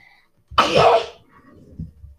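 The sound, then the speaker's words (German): A single loud sneeze bursts out after a moment of quiet, fading into soft breathy rustling and a small sniff afterward. “Übrigens, ich muss niesen. Nein, doch nicht, doch.”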